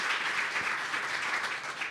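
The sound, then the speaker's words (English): An audience at a radio panel on homeowners insurance claps when asked to clap if their rates have doubled or more, many hands clapping at once in a dense, even wash of sound that holds at a fairly loud level for the whole two seconds, with no voices over it. “Clap if it's doubled or more than doubled.”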